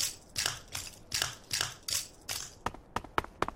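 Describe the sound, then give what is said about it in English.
Footsteps crunch steadily over broken glass, about two crisp, gritty steps per second, fairly loud, ending in a few sharper tinkling clicks. No one speaks. “Walking on some broken glass.”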